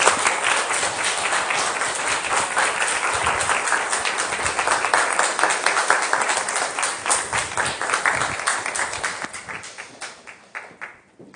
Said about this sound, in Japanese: どうぞ拍手でお願いします。